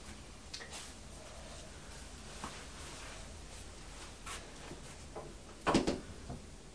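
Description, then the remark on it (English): Auntie Linda's door next door bangs once in the wind, sharply and fairly loud, near the end, with a few fainter knocks earlier, all over a steady rushing background of wind outside. “Yes, that's Auntie Linda's door next door banging, isn't it?”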